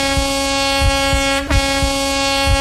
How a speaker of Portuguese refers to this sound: Ele vai percorrer de Papa Móvel algumas ruas do centro da cidade, passando pela Avenida Rio Branco e pela Avenida República do Chile, bem ao lado do Espaço Franciscano. A expectativa é grande e já podemos até ouvir a buzina do Papa Móvel.